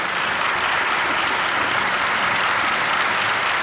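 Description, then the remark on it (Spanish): Steady, dense applause from a crowd, many hands clapping at once into a continuous bright wash of sound that holds at an even, loud level throughout with no voices. “Desde acá, este lindo aplauso.”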